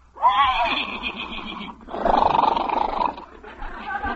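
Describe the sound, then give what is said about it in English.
A horse whinnies loudly in a few quavering, drawn-out bursts over about four seconds, with no talking; the hungry horse is being fed food emptied from an icebox in a yard. “See, Pasquale, horse likes him, yeah.”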